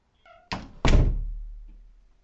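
A door shuts with a quick knock followed by a heavy slam that rumbles and fades over a second or so, just after a brief cat-like meow.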